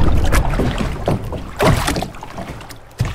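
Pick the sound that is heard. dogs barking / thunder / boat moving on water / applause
boat moving on water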